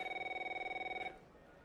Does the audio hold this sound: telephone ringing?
yes